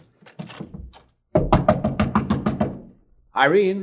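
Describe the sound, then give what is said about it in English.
A rapid series of sharp knocks on a door, fairly loud, mixed in with voices talking before, during and after the rapping. “Watch out. Someone's at the door.”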